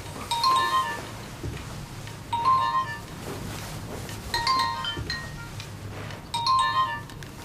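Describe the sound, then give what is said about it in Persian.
A telephone rings four times in a steady, even rhythm, each bright electronic trill about two seconds apart, moderately loud over a low background rumble, with no voices. “خیر باشه، انتظار تلفنتون رو نداشتم.”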